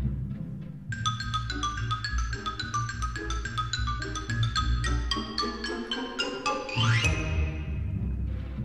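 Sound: xylophone playing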